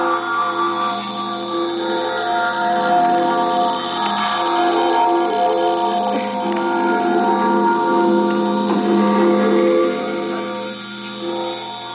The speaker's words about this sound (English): Tonight, weeping Berliners rang the giant city hall bell in his honor. It is called the Freedom Bell, a gift from America, and this is what it sounded like tonight.